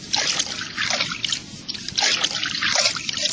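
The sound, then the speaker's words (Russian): Continuous watery gurgling and splashing as a bird dives and paddles underwater, with bubbly trickles rising and falling for a few seconds and no voices. “Я хорошо умею плавать под водой. Ты умеешь нырять?”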